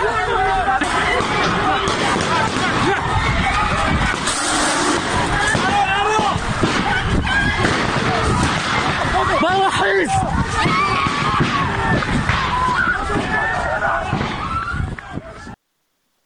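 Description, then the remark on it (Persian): A loud, chaotic crowd commotion with many voices shouting and clamoring at once, sustained throughout, with occasional sharp bangs or pops cutting through the din, as special unit forces attack a gathering of students inside Kurdistan University of Medical Sciences on 7 Aban, with tear gas and shooting reported. “حمله نیروهای یگانه ویژه به داخل دانشگاه علوم پزشکی کردستان 7 آبان ماه.”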